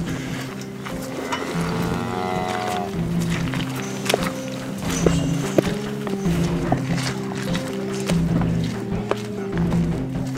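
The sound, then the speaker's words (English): Leather boots squelch and slosh through liquid cow manure in a steady walking rhythm beside hundreds of cows, over a constant low droning hum, with a brief mooing-like call early on. “now I've basically not only the entirety of the outside of my leather boots, but I fear the inside as well, not to mention my pants up past my ankles are coated with sort of liquid manure.”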